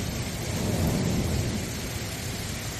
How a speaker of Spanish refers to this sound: El sonido de la lluvia y la tormenta con enorme aparato eléctrico que tenemos desde anoche. Está lloviendo mucho. Desde la pasada medianoche se han recogido más de 80 litros de lluvia por metro cuadrado en Málaga capital